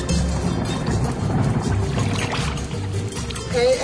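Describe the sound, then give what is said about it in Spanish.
Rainwater pours and splashes steadily for a few seconds, fairly loud, a continuous wet rushing with small gurgles as someone collects it in a container. “Recogiendo agua de lluvia, ¿no ve?”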